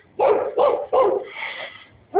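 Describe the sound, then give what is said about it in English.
A neighbor's dog barks three times in quick succession, then lets out a longer drawn whine before a fourth bark begins. The barking is loud, with no talking over it. “And here's our neighbor dog.”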